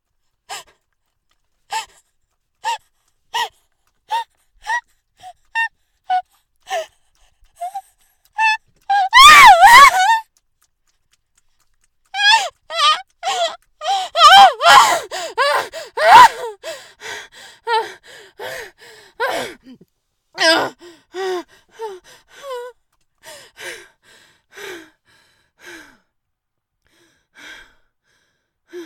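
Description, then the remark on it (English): Heavy, quivering breathing with sharp gasps: short rhythmic breaths speed up, break into a loud strained vocal cry midway, then continue as shaky, uneven panting that gradually fades. “Breathing heavily and quivering.”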